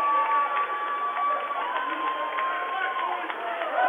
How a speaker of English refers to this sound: And we got some razzle-dazzle going on here, some anger. As the crowd reacts to the circumstance.